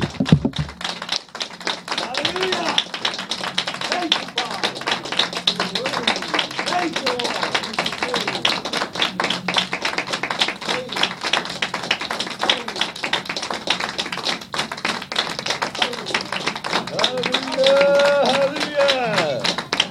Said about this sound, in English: Let's go ahead and give the Lord a big from the heart hand clap of praise. Thank you, Lord.